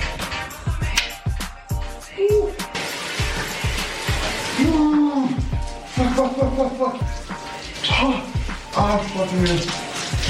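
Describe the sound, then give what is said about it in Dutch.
A cold morning shower runs steadily, a dense hiss broken by uneven splashes, while a voice makes short wordless sounds over it. “Ik start altijd met een koude douche 's morgens.”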